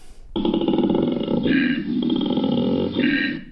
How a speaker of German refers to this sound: Wenn ein Koala-Bär aber Lust hat, also rollig wird, ja, und sich fortpflanzen will oder muss, dann holt plötzlich der Koala-Bär den …